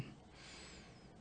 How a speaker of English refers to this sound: We continue to focus on our breathing and we take another deep breath in.